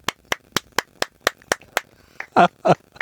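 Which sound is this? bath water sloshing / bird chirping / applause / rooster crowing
applause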